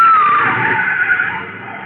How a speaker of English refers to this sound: And that car was trying to run us down. The same thing that happened to Logan. Yeah, and almost in the same place. A baby blue convertible, a big one.